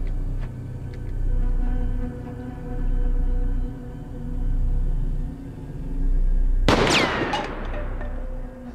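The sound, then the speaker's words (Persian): A steady low rumble of engines and machinery fills the scene, then near the end a sudden sharp burst of loud gunfire cracks out, with bright ringing debris after it. “تیراندازی خوبی داشتی، ولی دیگه هیچ وقت دوستاتو هدف نگیر.”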